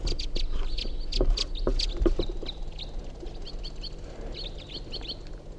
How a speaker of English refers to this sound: They're white-winged crossbills. One of them's a male white-wing.